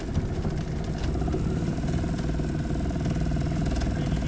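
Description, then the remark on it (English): A small outboard motor on a boat sitting on a hoist at the water's edge idles steadily, its low, even engine rumble with a faint rhythmic chug running continuously throughout. “The outboard motor is going.”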